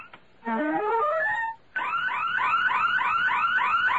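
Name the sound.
burglar alarm ringing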